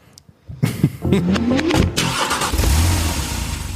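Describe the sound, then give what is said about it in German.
A car engine cranks and catches, then revs up with a rising whine before settling into a loud, steady rumble, with no talking. “So, jetzt haben wir einen kleinen Zeitsprung. Wir sitzen jetzt im Auto.”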